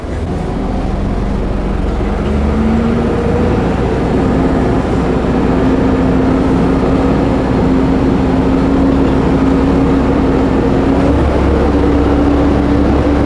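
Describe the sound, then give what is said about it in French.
A four-seat truck's engine drones steadily from inside the cab during a short test drive, a low, loud rumble with a rising tonal whine that shifts slightly near the end, no voices. “C'est parti. C'est un camion 4 places.”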